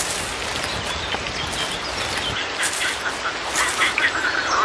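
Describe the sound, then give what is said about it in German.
A dense chorus of male toads calling at a pond, many overlapping croaks and trills merging into a steady, noisy din that grows a little louder and busier toward the end, with no talking. “Wieso müssen Krötenmänner immer so einen Krach machen?”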